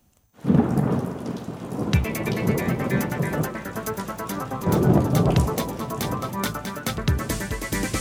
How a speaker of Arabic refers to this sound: في عنا أمطار متفرقة غزيرة برفع عواصف رعدية، في احتمال لتساقط حبات البراد.